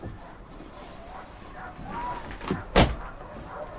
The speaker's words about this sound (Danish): banker på den slidte, brune dør til hendes barndomshjem.